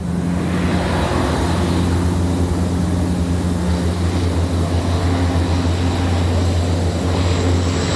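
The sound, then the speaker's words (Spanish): The propeller engines of a Spanish Air Force amphibious firefighting plane, used to drop water on wildfires, drone loudly and steadily, a deep throbbing hum layered with rushing air noise that holds constant throughout, with no voices. “Van a los mandos de los conocidos como hidroaviones, esos aviones anfibios del Ejército del Aire que se encargan de descargar agua sobre el fuego para tratar de extinguirlo.”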